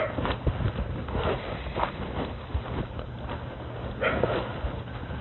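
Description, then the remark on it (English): Dogs that have been stirred up bark a few times, short scattered outbursts over a steady outdoor rumble, with no one speaking. “Ah, the dogs. Stirred up.”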